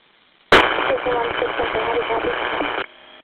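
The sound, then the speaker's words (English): A sudden burst of harsh radio static on a West County dispatch radio channel cuts in and crackles steadily for about two seconds, a garbled, unintelligible transmission from a unit, before dropping away to a faint hiss. “Unit 2-1, I'm only copying static.”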